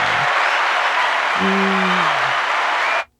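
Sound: small group applauding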